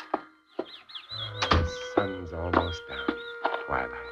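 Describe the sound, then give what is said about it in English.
Birds chirp outdoors in quick, repeated high tweets throughout, mixed with some lower murmuring sounds and a few sharp knocks underneath. “Wonder what kind of birds those are.”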